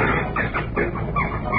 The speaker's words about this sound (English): And we'll have the sound of the bird of the week in just 10 seconds. Now, ladies and gentlemen, the sound of this week's bird.